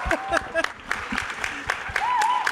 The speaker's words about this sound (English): You got it. Yeah. Woo! Don't stop now. It's horrible when the applause stops.